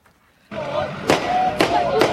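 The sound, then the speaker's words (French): A crowd of yes-vote supporters chants in a steady outdoor roar at night in Sütlüce on the Golden Horn, Istanbul, while three sharp gunshot cracks fired into the air ring out about half a second apart, loud against the voices. “Ce que vous entendez derrière moi, Nicolas, ces chants, ces coups de feu tirés en l'air, eh bien c'est l'ambiance qui régnait la nuit dernière dans la Corne d'Or, à Sujoutlé, là où les partisans du oui”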